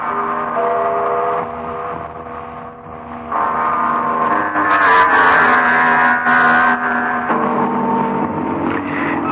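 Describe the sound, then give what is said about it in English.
A car engine hums steadily from inside a moving car being driven to Ludlow Park. Its drone rises and strengthens partway through as if picking up speed, with no voices over it. “Ludlow Park 10 minutes ago, and now we sit here in the car.”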